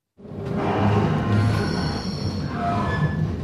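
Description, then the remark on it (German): A train pulls into Kerzers railway station with a steady low rumble, thin metallic wheel squeals whining above it, fairly loud for a few seconds, no voices. “Wer am Bahnhof Kerzers mit dem Zug einfährt, dem fällt sofort auf.”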